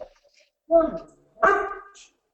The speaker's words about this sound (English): Sorry, I've got a dog here, which is... The dogs.